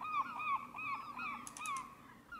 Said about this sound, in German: Sein Büro liegt im vierten Stock, vor den Fenstern fliegen ab und an Möwen vorbei.